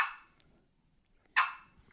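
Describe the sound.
A box call, played on its back half with the paddle almost closed, gives two short, sharp turkey clucks roughly a second and a half apart, each a crisp mid-pitched pop with a brief scratchy tail, with near silence between them and no talking.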